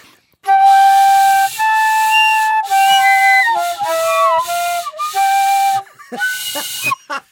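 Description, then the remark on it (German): An amateur plays the Christmas carol "O du fröhliche" on a recorder in shrill, breathy held notes that step unevenly and waver in pitch, with no talking, then breaks off into a few short squeaky blasts. “Ich schenke dir vielleicht eine neue Blockflöte zu Weihnachten.”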